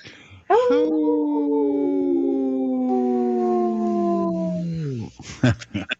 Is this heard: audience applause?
no